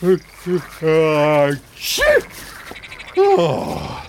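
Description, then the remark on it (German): A handful of deep, croaking calls in quick succession at sunrise, including one long drawn-out croak, sounding like voices imitating frogs, with no words spoken. “Guten Morgen, ihr Frösche.”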